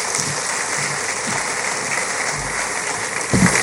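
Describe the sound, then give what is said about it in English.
A crowd at an education stakeholder forum claps steadily for Ghana's Minister for Education, a dense, even wash of hand claps with no pauses, swelling slightly louder at the very end. “One more time, a round of applause for Ghana's Minister for Education, speaking to us through the Chief Director”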